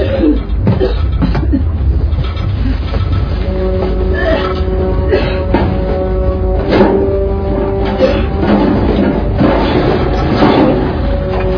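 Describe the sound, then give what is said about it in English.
People cough in repeated harsh bursts over a loud, steady rumble of a moving train, with a sustained metallic whine running beneath them. No one speaks. “They're coughing? Yeah, they're coughing.”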